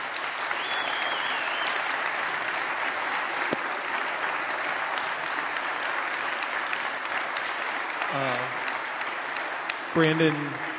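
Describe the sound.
Sustained applause from a large crowd at Park Church, a dense steady wash of clapping lasting several seconds, with brief voices emerging near the end.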